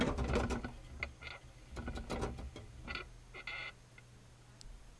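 A small exercise wheel rattles and squeaks as a pet hamster runs in it at night, around 10:15 pm, a fast, uneven mechanical clatter with a low steady whir, continuing in bursts.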